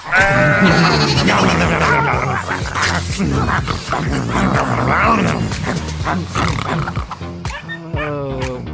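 goats bleating

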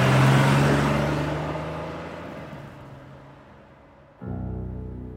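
car speeding off

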